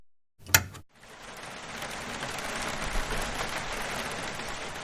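nature, rain dripping

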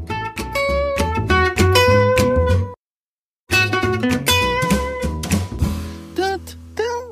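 signal or alarm, segment intro jingle music

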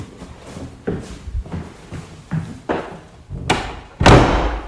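household object, door being closed

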